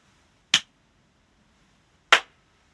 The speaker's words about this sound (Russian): Как проверить, насколько подходит ваше помещение для записи? Есть один простой трюк, нужно хлопнуть в ладоши. Давайте попробуем.